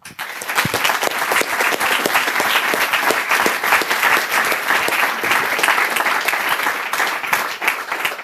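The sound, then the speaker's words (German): Sustained applause from an audience, dense overlapping claps filling the whole stretch at a steady, fairly loud level, with no talking over it. The applause is for everyone who attended a weekend event and presented their projects. “Danke nochmal, einen Applaus für euch alle.”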